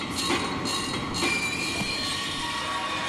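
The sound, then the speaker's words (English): A tram car rolls steadily along its rails, a continuous rumble with thin metallic wheel squeals riding on top and no voices. “one of them is about to lose his head in a freak encounter with a tram car.”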